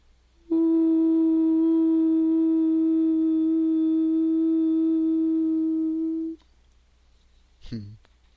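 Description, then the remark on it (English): A single steady hum made out loud, held at one pitch for about six seconds, loud, then cut off, followed by a soft breath-like noise. “Now make it out loud.”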